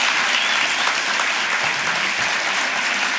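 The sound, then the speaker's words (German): Steady, loud applause from an audience, a dense wash of many hands clapping at once with no pauses for the full few seconds. “Ein großer Applaus.”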